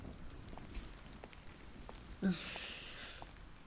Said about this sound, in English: Rain is getting all over me.